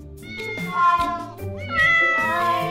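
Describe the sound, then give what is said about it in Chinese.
Several cats of different sizes, a family of cats, meow over one another, high wavering cries overlapping in a continuous, fairly loud chorus with some lower tones underneath; no one speaks. “一群猫哎，大大小小都有，好像是一个猫的家族哦。”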